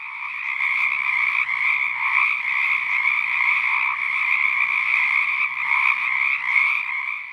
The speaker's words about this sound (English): While calling, they will immediately stop if they detect movement nearby. Any given patch of frogs will spontaneously cycle between silence and calling.